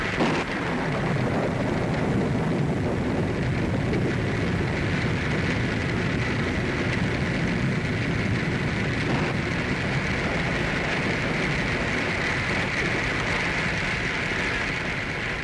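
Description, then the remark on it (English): A storm breaks at Pine Creek Forks, roaring steadily throughout, a dense wash of heavy rain and rushing wind that stays loud and unbroken, with a faint low rumble beneath and no voices. “And so, as the storm breaks around them, the sheriff's posse gathers at Pine Creek Forks, prepared for action.”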